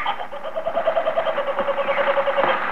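A loud bird call of rapid, repeated chattering notes, a kookaburra in Australia laughing in a steady rolling cackle that fills the whole stretch without pause.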